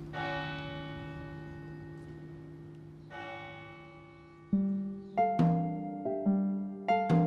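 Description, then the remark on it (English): Resonant bells ring with long, shimmering decays, a few slow strikes at first, then a quicker cluster of overlapping chimes toward the end. No voices, just the clear, moderately loud bell tones. “Wind chimes or bells, if people hear them ringing, if they place them inside their house, they believe spirits are there, and the spirits will turn around and leave when they hear the bells or chimes.”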